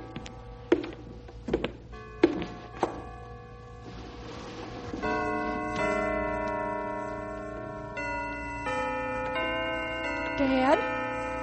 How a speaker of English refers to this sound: Dad, the bells are playing.